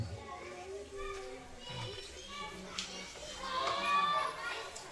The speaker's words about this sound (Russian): Там дети громко говорят, что надо делать.